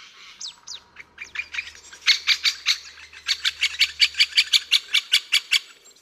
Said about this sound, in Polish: Tego ptaka jeszcze nie dorobiłem się maskotki, to jest gil taki z czerwonym brzuszkiem, a tego ptaka widzieliśmy, on wam jeszcze raz tutaj wyda dźwięk.